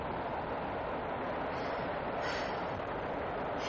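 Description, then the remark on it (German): A slowly crawling train rolling along the tracks, heard as a steady, unbroken rumble with a faint hiss on top and no clear rhythm. The noise stays at an even level throughout, with no voices. “Dieser Zug kriecht vielleicht.”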